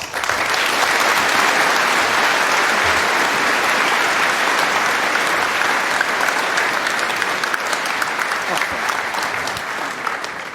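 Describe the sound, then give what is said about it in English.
An audience claps after a conference presentation on recovering files encrypted by ransomware, a sustained, dense round of applause that stays loud and steady for about ten seconds before easing slightly at the end, with no talking over it. “That was a fantastic round of applause.”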